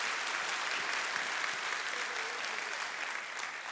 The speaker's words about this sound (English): Let's clap. Come on, somebody clap. See?